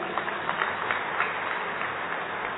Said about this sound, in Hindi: एक बार पुनः जोरदार तालियां।